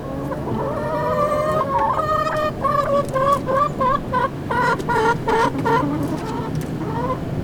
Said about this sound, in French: On a des poules pour montrer aux parents qu'on est assez grand pour s'occuper des animaux et pour moins polluer la nature. En animal, on a choisi les poules parce que c'est gentil, ça mange presque tout.